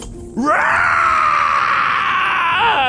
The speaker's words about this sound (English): The Star Man's hanging face was catapulting back and forth, now writhing and shrieking in agony, flopping around and bashing at my bodies above.